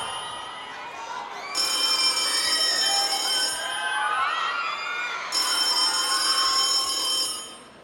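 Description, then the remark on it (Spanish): A telephone rings in a theatre in two long bursts separated by a short pause, fairly loud, over a busy background murmur of a crowd. “Ese teléfono.”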